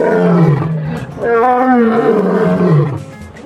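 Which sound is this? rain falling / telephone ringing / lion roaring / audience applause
lion roaring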